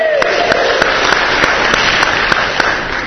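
A crowd applauds steadily for about three seconds for someone who has just recited John chapter 8, verses 31 and 32, a dense wash of many hands clapping at an even loudness, with a few sharper individual claps standing out.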